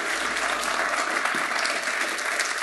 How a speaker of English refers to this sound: Fantastic. Round of applause.